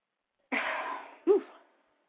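sneeze

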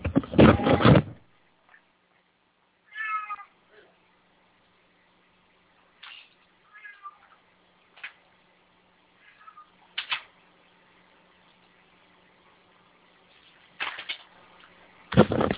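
cat meowing

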